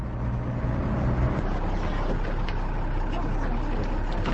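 city bus ride interior

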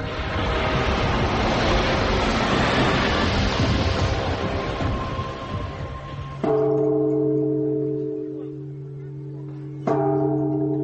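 temple bell ringing

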